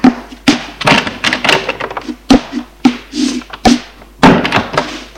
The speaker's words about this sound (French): Je l'ai suivi et monte à l'étage avec lui. Il ouvre la porte de sa chambre et entre.